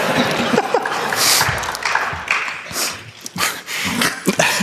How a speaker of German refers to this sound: Das vereinzelte Klatschen der verzweifelten Seelen.